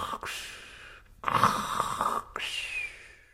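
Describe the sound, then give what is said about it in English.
A voice imitates snoring: a quick snort, then two long, rasping snores, the second ending in a thin whistling rise. No one speaks. “And all the grandfathers started snoring.”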